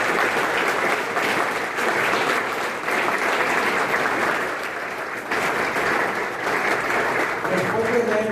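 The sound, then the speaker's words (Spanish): A crowd at a celebration for the staff of an institution in Michoacán claps steadily for several seconds, a dense, loud wash of many hands with a few brief dips, and a voice rises faintly through it near the end. “Entonces, este festejo es para ustedes, por lo cual les pido un gran aplauso para todos ustedes.”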